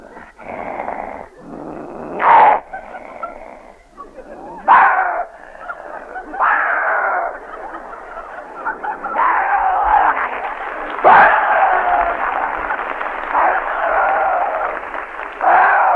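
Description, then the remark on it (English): A continuous stretch of snarling and growling, like dogs fighting, with sharp yelping bursts breaking through. It sounds like a person imitating a dog fight with their voice. “A dog fight.”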